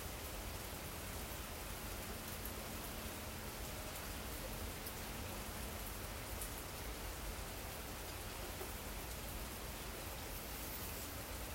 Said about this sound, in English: And just say, oh, nope, I'm going to stick with the sound right now. The beautiful sound that I hear of the rain.